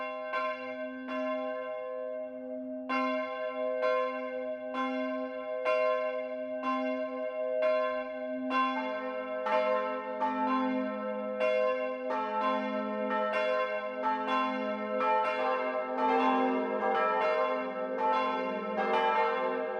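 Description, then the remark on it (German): The 12 o'clock noon bells of the Catholic parish church St. Georg in Brackenbach, Lower Bavaria, Germany, ring in a steady, overlapping peal, bright strikes repeating roughly every second over a sustained low hum, growing denser and fuller toward the end. No voices are heard. “Das Mittagsläuten kommt heute von der katholischen Pfarrkirche St. Georg im niederbayerischen Brackenbach.”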